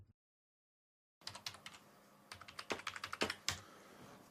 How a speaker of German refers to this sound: Tippt.